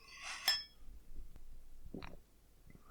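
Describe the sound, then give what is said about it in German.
A single bright clink of beer glasses touching in a toast, one a Steiger Schwarzbier glass holding dark Schwarzbier, short, followed by a soft muffled thump and quiet handling sounds. “Gut, dann sage ich mal Prost. Prösterchen. Prost.”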